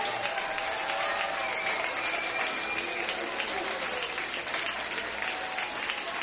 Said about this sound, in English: Runner on second. Crowd coming to life.